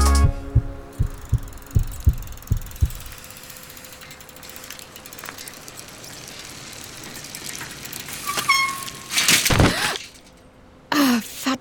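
A heartbeat sounds as a run of low, muffled thumps in a steady, slightly quickening rhythm for about three seconds. Mechanical clicks and a brief burst of noise follow, with no one speaking.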